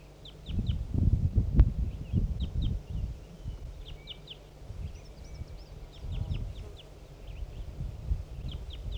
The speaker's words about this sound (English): Somebody's calling here. I don't know who this is. Could be 4-3. Could be a wild bird. I'm not sure what's going on.